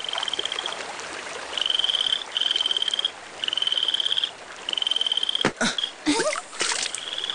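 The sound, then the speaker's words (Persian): A frog croaks in a rapid, buzzing trill, repeating in steady bursts of about a second each, loud, with a couple of sharp splashy sounds near the end. “اینجا رو ببین. اینها ها یه قورباغه.”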